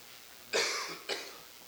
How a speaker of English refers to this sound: Well, I have no cough button on this, so please bear with me if I cough into the microphone.